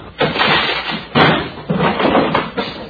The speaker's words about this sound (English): All right, men, all together now. Keep your guns drawn. We'll break the door down.